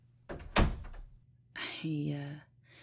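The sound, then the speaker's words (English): A door swings shut with a single solid thunk, then a brief voiced murmur follows amid quiet. “Close the door.”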